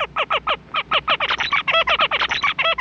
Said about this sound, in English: On the other hand, Clayton says male zebra finches have a very sophisticated song that they have to learn.